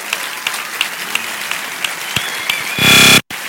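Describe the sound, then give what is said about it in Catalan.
A large audience at the Sitges festival applauds M. Night Shyamalan at the premiere of Glass, steadily, a dense wash of clapping with a few sharper claps standing out, then it surges louder with a brief tonal whistle or cheer just before abruptly cutting off. “I tenim 2 grans premis honorífics avui, i després parlarem més, però una fort salutació, un fort aplaudiment.”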